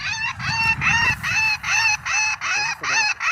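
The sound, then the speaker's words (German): Loud, harsh bird calls repeat in quick succession, about eight in a few seconds, played at random from a bird-deterrent sound box used to drive away starlings, over a low background rumble. “Zufallsgenerator spielt jetzt verschiedene Rufe ab.”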